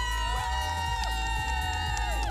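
A crowd cheering at a street party in Nieuwkuik, encouraging passing participants in the sunshine, a loud, continuous din of many voices with sustained high tones and sliding whoops layered through it, no single speaker standing out.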